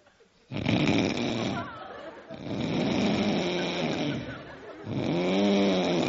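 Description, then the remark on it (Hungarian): A voice imitates the loud snoring of a train-compartment traveller who wakes himself with his own snoring: three long rasping snores in a row with short quiet gaps between them, prominent, with no other sounds around. “Utazásnál kupékba találkozunk velük, fölébresztik saját magukat, és körülnéznek, hogy ki horkol. És körülbelül így csinál.”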